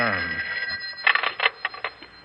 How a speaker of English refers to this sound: Carl, it's the phone again.